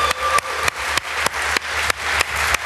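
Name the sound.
applause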